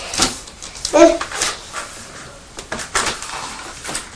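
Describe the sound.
A child imitates Nuda, the little vacuum cleaner from the Teletubbies, with a string of breathy, hissing whooshes and a brief high whine, the bursts rising and falling unevenly for several seconds.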